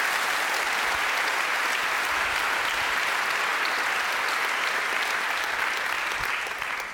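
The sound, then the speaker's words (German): An audience claps steadily for several seconds in praise of the German peace movement, a dense, even wash of many hands with no voices on top, tapering slightly at the very end. “Das müssen wir kurz mit einem Applaus uns bestärken.”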